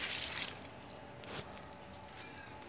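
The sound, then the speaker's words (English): Water is poured from a very full bucket onto plants: a brief, hissing splash in the first half second, fading into a soft, faint trickle with a few light drips. “Let's water the plants. This bucket's very full.”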